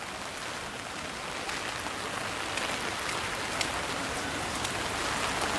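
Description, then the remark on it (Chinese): Heavy rain pours down steadily in a dense, continuous hiss, with scattered sharper drops pattering on surfaces. No one speaks. “今天因为是下雨的缘故，所以没有很多人。”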